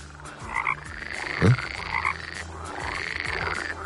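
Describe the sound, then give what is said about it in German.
Frogs croak repeatedly in a dense outdoor chorus on a mild spring night, with rising, warbling calls overlapping at a steady pace and one louder croak standing out briefly. No one speaks. “Frösche und so weiter und so fort.”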